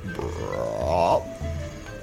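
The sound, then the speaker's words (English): During a tabletop role-playing game, a voice imitates a frog croak: one loud, throaty, burp-like call that wavers up and down in pitch for about a second, then trails off into low, rough murmuring. “It's a froggy.”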